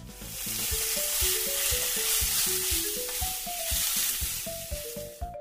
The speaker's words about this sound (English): Mom is stir-frying rice in a wok. Dinner is almost ready.